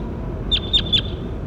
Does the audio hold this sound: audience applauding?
no